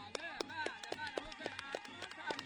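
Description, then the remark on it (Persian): A group claps in a steady, quick rhythm, sharp claps about four per second, while several voices cheer and call out over the beat, a team cheering its own player during a traditional stick-fighting (chubazi) match between two rival groups. “وقتی که دوتا دسته جمع میشن دوتا دسته رقیب هم هستن، هر کدوم دسته خودشو تشویقی کنه و اگر اون طرف چوباز بتونه ترکه در هدف مورد نظر بزنه و دست محکمی بزنه، افراد خودش تشویقشون کنه مثل الان.”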